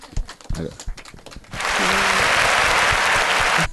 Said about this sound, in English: It's the natural end to that applause that I like very much. It's exactly, you know, when you get just almost to a microphone, because there is no audience in the entire city that will applaud you all the way to the microphone.